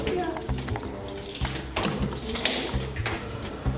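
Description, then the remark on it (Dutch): A key rattles and turns in the door lock of a prison dome building, with several sharp metallic clicks and taps spread over a few seconds, faint voices murmuring in the background. “Dit gaat gewoon met een sleutel.”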